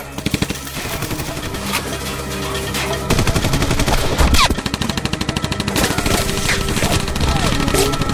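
Loud, sustained automatic gunfire fills the whole stretch, rapid overlapping bursts of cracks in a dense, relentless rhythm, with a girl faintly screaming beneath the shots at moments as she is fired at inside a home, in a scene from the film Sis ve Gece.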